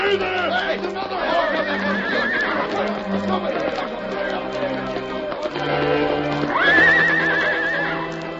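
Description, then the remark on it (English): In a Lone Ranger drama, a horse whinnies loudly twice, a long shrill neigh early on and another near the end, over a steady clatter of galloping hooves and background commotion as the horse Silver charges into outlaws. “Hey, there's another horse.”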